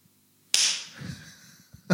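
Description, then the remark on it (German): Two sharp, loud hand claps, the first ringing out briefly before fading and the second landing near the end, with a soft low rumble in between and no talking. “Wir klatschen jetzt. Wir müssen so klatschen.”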